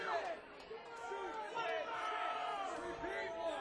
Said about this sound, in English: They want to do an encore. You got to keep yelling their encore.